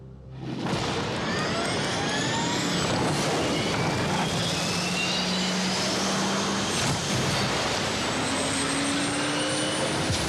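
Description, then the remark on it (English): A loud airplane roar from the trailer for the Top Gun sequel fills the whole stretch, a dense engine rumble layered with whining tones that slowly rise and fall as the aircraft passes. No voices. “I mean, we already know Top Gun is in a plane.”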